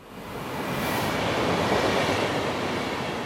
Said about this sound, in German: Bahnhof Bern-Wankdorf heute Nachmittag. 900 Züge fahren hier jeden Tag vorbei, auf dem Weg vom oder in den Bahnhof Bern.